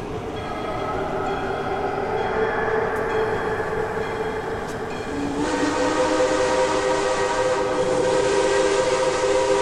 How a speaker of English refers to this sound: That's weird. You usually don't hear the trains from here. That's not a newer train either. What do you mean? That sounds like a steam engine. Huh. I didn't know that they still use steam locomotives.